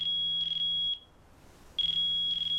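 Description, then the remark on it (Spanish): A mobile phone alarm clock beeps in a steady high-pitched tone in the morning, sounding in two bursts separated by about a second of silence, fairly loud with nothing else audible, before a man waking on a sofa bed in a living room switches it off. “Apaga el despertador de su teléfono móvil.”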